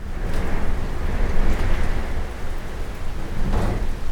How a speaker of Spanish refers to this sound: Esa tarde, el cielo se oscureció. El viento, que en un principio fue tranquilo, poco a poco aumentó de velocidad, y con él llegó la torrencial lluvia.